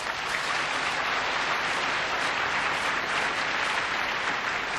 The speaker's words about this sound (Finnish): Kiitos alustajille ja kiitos keskustelijoille. Annetaan raikkaat aplodit heille.